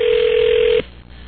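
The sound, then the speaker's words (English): A telephone dial tone hums at one steady pitch for just under a second, then cuts off abruptly, leaving only faint line hiss; no distinct dialing beeps follow. The phone is being used to call a number from a newspaper to ask the price of Super Bowl tickets. “Just call one of these random things out of the paper.”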